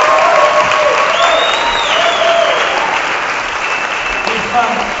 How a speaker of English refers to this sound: How about a round of applause for the guys who are standing here?